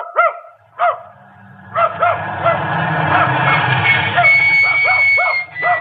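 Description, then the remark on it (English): A dog barks repeatedly, sharp harmonic yaps coming in quick bursts, with a steady rumbling noise and a faint high whine running underneath. “Well, now, if you'll call off your dog, ma'am”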